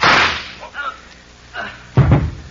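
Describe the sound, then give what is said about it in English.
Pistol shots ring out, a few sharp, loud cracks spaced unevenly, the final pair coming close together, each with a short, rough tail and no talking in between. “He's reaching for his pistol.”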